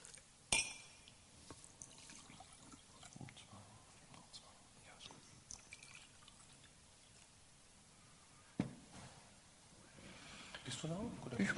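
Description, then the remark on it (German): Water is poured into a glass in a soft, steady trickle, with a couple of sharp clinks and quiet, murmured voices in the background. The pouring swells slightly louder near the end. “du kannst wirklich mal einen Schluck Wasser”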